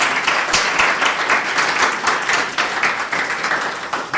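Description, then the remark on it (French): An audience applauds steadily, a dense wash of many hands clapping at an even, fairly loud level for several seconds with no talking over it, applauding a person who has just shared with them. “On peut l'applaudir, hein?”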